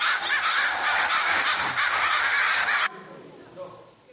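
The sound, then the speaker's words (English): A dense, raucous chorus of many crows cawing over one another, loud and continuous for about three seconds, then cutting abruptly to a quieter background with a faint call or two. “It's crows.”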